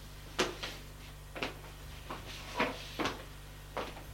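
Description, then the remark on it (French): Doors in a cellar corridor being tried and opened: about half a dozen sharp clunks and latch clicks come at uneven intervals over a steady low hum, with no voices. “Gilbert essaye d'ouvrir des portes.”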